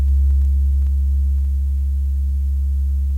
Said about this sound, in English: asked our engineers to reproduce this for us here in the studio using a tone generator similar to the one scheduled for use by Dr. Monk. It's a very low, rumbling tone, like this. Can you hear it? Like a foghorn, almost. You almost have to feel it.